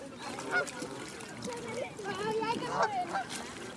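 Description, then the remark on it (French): A flock of geese in flight, having just taken off or about to land, honks continuously, many overlapping nasal calls rising and falling, forming a busy, steady chorus with no clear gaps. “Ah, regarde, ça c'est un escadrille qui vient de décoller ou bien qui va atterrir.”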